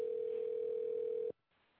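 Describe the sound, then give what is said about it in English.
A steady, loud telephone dial tone holds one pitch for just over a second, then cuts off abruptly, leaving a faint line hiss, as a caller dials back in after a call was cut off. “Here we go. We're dialing back in.”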